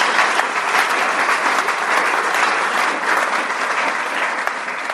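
Sustained audience applause welcoming guests at an evening event marking 50 years of the municipal reform and merger of Schenkenzell and Kaltbrunn, a dense, steady patter of many hands clapping at an even loudness for the whole stretch, with no voices rising above it.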